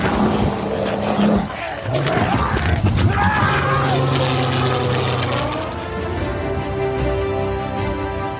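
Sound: polar bear roaring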